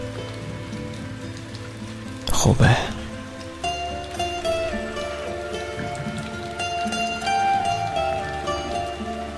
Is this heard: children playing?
no